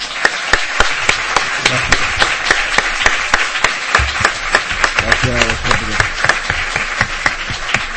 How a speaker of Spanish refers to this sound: Entonces agradecerle mucho su estancia aquí, vamos a darte un gran aplauso